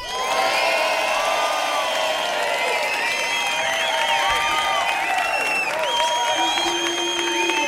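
A large audience on a television programme cheers, shouts and applauds to vote for a contestant, a dense, sustained roar of voices and clapping that stays strong for the whole stretch without letting up.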